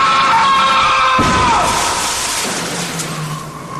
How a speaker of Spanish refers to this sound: Nervioso por lo sucedido, cruzó rápidamente la calle, pero sin fijarse que venía un auto a toda velocidad, el cual lo impactó matándolo al instante.